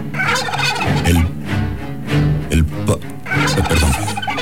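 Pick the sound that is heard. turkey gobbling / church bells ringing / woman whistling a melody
turkey gobbling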